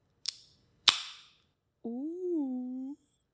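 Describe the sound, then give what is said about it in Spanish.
A can of vodka drink is opened with two sharp cracking snaps, the second louder, with no clear fizz afterward. A short, steady voiced hum from a person follows. “Ella tiene que abrir la mía porque, fun fact, yo no sé abrir latas.”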